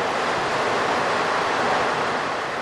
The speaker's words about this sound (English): Her grin turns to a smile as a rush of wind begins to pick up through the car. Sensing another tunnel of noise and darkness approaching